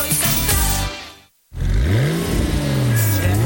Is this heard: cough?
no